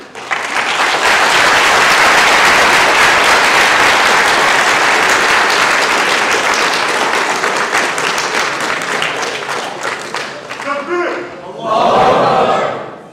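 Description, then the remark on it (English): A large audience bursts into loud, sustained applause at the close of a talk for about ten seconds, then tapers off as a few voices whoop and cheer near the end. “By the way, clapping should only be for women, huh?”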